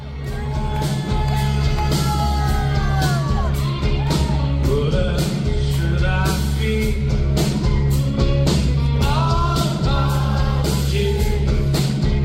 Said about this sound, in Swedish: stark allsångsglädje bland publiken kan man höra.